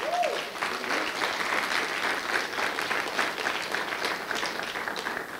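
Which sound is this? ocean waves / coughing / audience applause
audience applause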